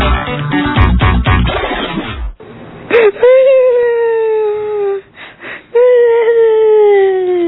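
A child cries loudly in long, drawn-out wailing sobs, two sustained cries with a short catch of breath between, following a brief burst of busy background sound.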